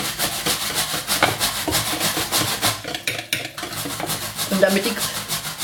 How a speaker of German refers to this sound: Schön Geduld haben und langsam tropfenweise das Kokosfett unterrühren, dass sich das immer schön in eine Schüssel bindet.